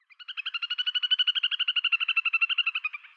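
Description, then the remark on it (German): A little grebe gives its trilling call, a fast, even series of about thirty high, bubbling pulses that swell in loudness and then fade over roughly three seconds, with no voices. “und ihr hört dieses Bibbern, Respekt Martin, gut verpackt im Song, dann ist das in der Regel ein Zwergtaucher”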